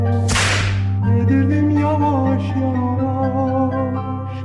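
A single sharp whip crack snaps right at the start, then gives way to steady, sustained music with droning tones that carries on to the end.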